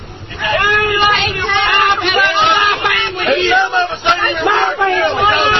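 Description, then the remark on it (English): A loud crowd of counter-protesters follows a vehicle caravan along a highway, yelling and screaming at once, many overlapping raised voices forming a steady, chaotic roar that barely lets up for several seconds. “Did you hear the screaming?”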